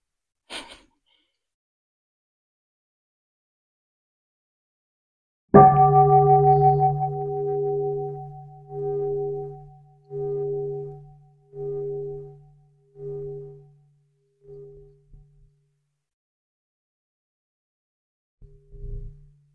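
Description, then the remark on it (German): A single bell is struck once, and its deep, resonant tone hangs in the air with a slow, throbbing waver, gradually fading away over about ten seconds. “Das können wir nun wunderbar genießen bei einer Glocke.”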